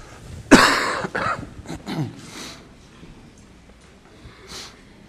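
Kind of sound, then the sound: human body sound, coughing and throat clearing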